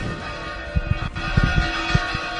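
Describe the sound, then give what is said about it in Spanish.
Church bells in the Villa de La Orotava, Canary Islands, ring out in a festive peal announcing a feast day, several strikes overlapping into a dense, ringing wash of tones that hangs in the air. “Ahí está el repique de las campanas.”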